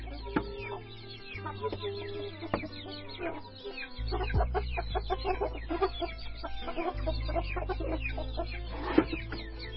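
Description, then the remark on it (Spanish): Many domestic chickens, raised as a food source, cluck and chatter continuously, a busy flock with overlapping short calls over a steady low hum, no talking. “Han sido las primeras aves en ser domesticadas y con el desarrollo pecuario en el siglo XX fueron distribuidos junto con sus técnicas de cría por todo el mundo”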